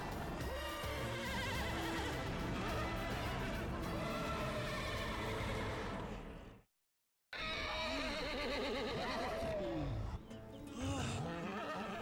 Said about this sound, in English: Hey, there's a horse!